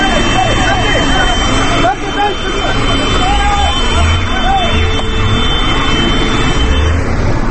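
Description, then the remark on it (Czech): A heavy truck rumbles loudly and steadily as it dumps a load of earth and gravel onto the middle of a road near Brnjak to block access, its engine roar mixed with a continuous gritty rush of pouring earth, while voices talk faintly underneath. “evo vidite, bacamo ovdje ovaj zemlje da se zatvori ovaj bud, da oni ne mogu da prilaze.”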